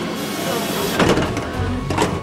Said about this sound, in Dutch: Ja, en we gaan nu proberen ons hier in de metro te wringen.